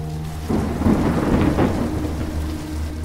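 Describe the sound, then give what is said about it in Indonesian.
A deep rumble of thunder, with lightning flashing from the sky, rolls in over steady, heavy rain, swelling loudly after a quieter start and lingering as a low, sustained roar beneath the downpour. “Seiring kilatan cahaya petir dari langit”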